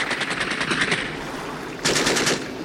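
Machine gun fire rattles in a rapid, steady stream of sharp cracks for about a second, fades under a rough hiss, then a second, louder burst breaks out and keeps going.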